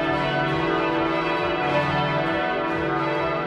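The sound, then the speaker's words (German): Large church bells of Ulm Minster in Ulm peal continuously for the 125th anniversary of the tower's completion, in a dense, overlapping wash of deep, resonant tones, loud and sustained with a rich ringing hum throughout and no voices. “Die Münsterglocken läuten heute zum großen Jubiläum und die Ulmerinnen und Ulmer lassen das Geburtstagskind hochleben.”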